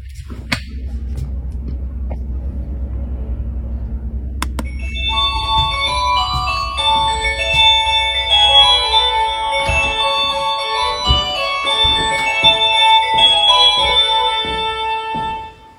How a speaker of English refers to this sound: and everyone knows that amazing feeling of buying your first house. But imagine finding this when you try out the doorbell.